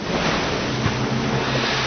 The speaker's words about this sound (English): tossed by the waves, for the wind was contrary.